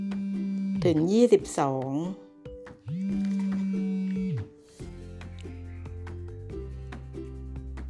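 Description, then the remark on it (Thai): A phone rings with an electronic ringtone for an incoming call: sustained synthetic tones shifting between steps in a simple melody, with brief warbling notes near the start and a voice speaking over part of it. “ขอโทษนะคะถ้ามีเสียงโทรศัพท์เข้าค่ะไม่เป็นไรห้องนี้เรากันเองนะคะ”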